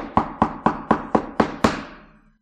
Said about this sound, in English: Do you hear Him knocking?